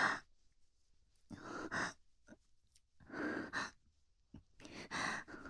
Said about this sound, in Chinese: 不知道为什么无法集中精神，身体很热，止不住的喘息，一开口就忍不住发出淫荡的声音。